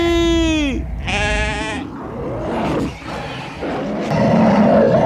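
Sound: sheep bleating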